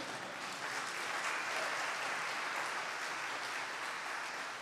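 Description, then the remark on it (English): An audience claps together to the Lord in a steady, dense wash of applause that holds at an even loudness for several seconds, with no voices standing out. “I'll expect more spontaneous clapping in the future.”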